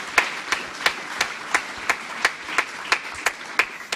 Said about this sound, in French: Tiens, est-ce qu'on peut les applaudir et vraiment leur dire merci? Et merci aussi à l'équipe d'accueil qui fait un travail extraordinaire, dimanche après dimanche. Oui, on peut les applaudir également, c'est chouette.